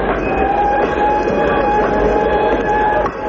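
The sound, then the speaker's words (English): A train stands at a small village station at the foot of a mountain, giving off a steady, loud rumble with sustained high metallic whining tones held over it. The sound continues unbroken throughout, with no one speaking. “Then I spot another guy getting off the train.”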